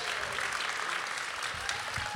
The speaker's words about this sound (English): I know you're applauding yourself, but what?